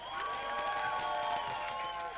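A crowd claps and cheers loudly, with high-pitched screams and whoops riding over a steady wash of applause that stays at full strength for the whole two seconds.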